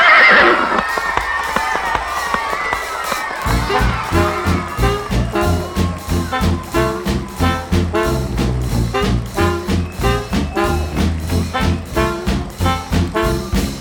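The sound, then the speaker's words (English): A horse, the "galaxy horse" Caligulon, lets out a loud, wavering whinny as it is mounted and ridden off, then hooves clip-clop in a steady, galloping rhythm over a low thumping pulse until the end. No one speaks. “Time to hop on my galaxy horse and ride on off into the cosmos.”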